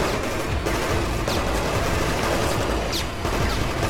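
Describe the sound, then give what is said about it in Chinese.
Steady, dense rattling bursts of automatic machine-gun fire from the ground below as a plane takes off, loud and continuous for several seconds, with faint higher crackles over a heavy low rumble and no voices. “飞机离开了地面，下传来了机关枪射击的声音。”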